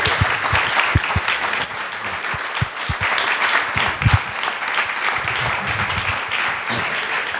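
Sustained audience applause, a dense steady wash of many hands clapping with scattered sharper claps standing out, holding at a fairly even loudness throughout with no talking.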